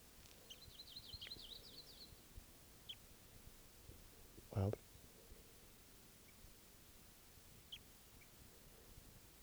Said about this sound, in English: So see the birds now. They're foraging up in the top of these trees. Somewhat a ways away.